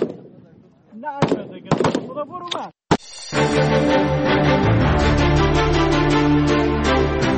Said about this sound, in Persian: با آن هم این زنان بی توجه به آینده ناروشن تلاش دارند تا گلوله‌هایشان به هدف بخورند و برای کشورشان تأمین امنیت کنند.